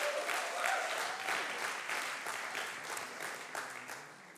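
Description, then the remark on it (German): A church audience applauds steadily for Aachen, where a First Wednesday service is being held at the same time. A dense wash of many hands clapping at an even level throughout, with a faint tonal whistle or voice briefly audible early on. “Deswegen mal einen fetten Applaus für Aachen.”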